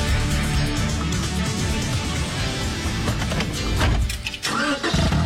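A new car's engine starts up and runs with a steady, loud mechanical rumble, changing briefly near the end as it keeps idling. No one speaks.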